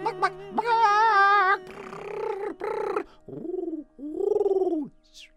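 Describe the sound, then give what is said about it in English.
A human voice imitates bird calls: a bright warbling trill, a few chirpy notes, then two low, rounded coos like a dove, with no other talking. “He understood what the birds said.”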